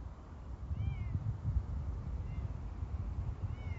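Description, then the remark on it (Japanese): Cat meows rise and fall three times, thin and high, coming from the shade of trees on a dark riverbank at night in winter, over a steady low outdoor rumble like wind; no one speaks. “猫ですか？猫こんな鳴きますっけ？こんな冬の時期に。”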